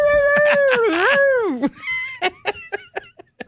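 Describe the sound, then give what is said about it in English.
A person lets out a long, wavering imitation of a werewolf howl that bends in pitch and fades, followed by a string of short choppy bursts like yips or chuckles. “Like, is he going to be able to like bark or howl it out?”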